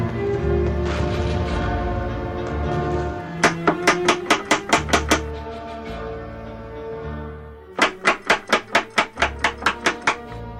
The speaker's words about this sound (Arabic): إلهي، من الطارق؟ ما الخطف؟ افتح الباب يا قمر بانو.